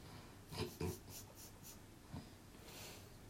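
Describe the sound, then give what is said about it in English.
Heavy, raspy breathing, a few wheezy inhales and exhales with short puffs, fairly quiet overall and with no one talking. “Breathing hard as hell.”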